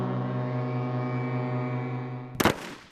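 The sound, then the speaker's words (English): Deep ship foghorns, played as a musical piece by ships' crews in Bergen, Norway, sound together in a steady, sustained droning chord, loud and unbroken, until a sudden sharp crack bursts in near the end and cuts the tone off. “Here, foghorns, in a piece performed by ship's crews in Bergen, Norway.”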